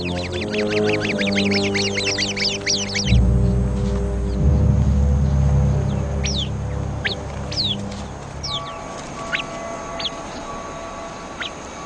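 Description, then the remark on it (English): Rapid, harsh alarm calls from a sentry bird on spotting a viper burst out in a fast chattering series, followed by scattered sharp chirps and calls from several birds of the flock coming together for protection, over a low rumbling background. “The sentry bird immediately sounds the alarm.”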